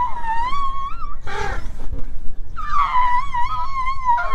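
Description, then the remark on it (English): High, tonal squeaks from an adult female Asian elephant at an elephant camp in Nepal, two long wavering calls separated by a brief rough burst, loud and clear over a low rumbling background. “So we started out with just observing the facial movements and posture of Asian elephants when they squeak.”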